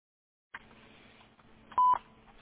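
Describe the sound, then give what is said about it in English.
A telephone keypad tone sounds once, a short, steady beep at a clear mid pitch, following a brief click over faint line hiss. “To leave a callback number, press 5.”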